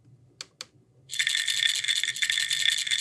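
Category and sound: household object, pill bottle rattling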